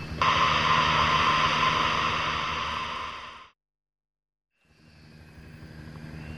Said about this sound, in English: I can hear something. Is it a helicopter? You're right!